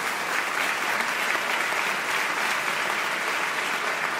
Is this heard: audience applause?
yes